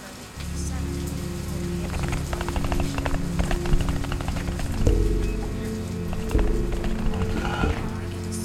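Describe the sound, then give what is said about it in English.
Steady rain patters on a hard surface, a dense crackle of drops layered over a deep, continuous low hum, with a few louder thumps toward the middle and end. “At a sound like rain.”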